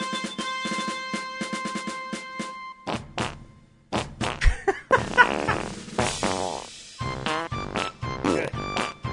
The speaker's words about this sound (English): I want to hear the patriotic fart.